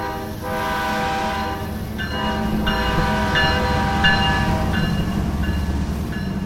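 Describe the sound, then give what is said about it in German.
A heavy freight train pulls away, rumbling steadily while its horn sounds in several long, harmonic blasts, loud, over a constant low mechanical roar. “Auch Samuel und Kevin haben sich bisher noch nicht getraut, auf einen der Waggons des anfahrenden Zuges zu springen.”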